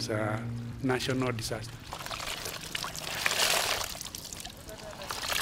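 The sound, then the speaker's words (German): Steady splashing and sloshing of river water as young women wash clothes in a side arm of a river, with children playing in the water, and voices calling out briefly at the start before the watery churning carries on alone. “An einem Nebenarm waschen junge Frauen im Fluss ihre Kleidung. Sie haben Kinder mitgebracht, die im Wasser spielen.”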